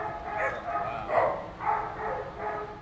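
dog barking

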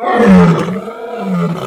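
lioness roaring

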